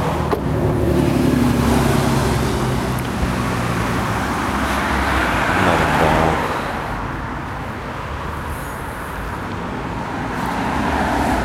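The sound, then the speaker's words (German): Steady roadway noise fills the scene as cars pass, a broad rumbling wash that swells around the middle as a vehicle goes by, then eases slightly. “Über die Straße hier rübergehen, wenn es dann der Verkehr zulässt.”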